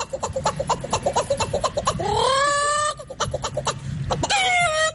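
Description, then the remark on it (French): A person in a video mimics farmyard animal calls: rapid, clucking hen bursts in a steady rhythm, broken by two long, rising, strained rooster crows, loud and alone with no talking. “C'est un humain qui imite des cris d'animaux.”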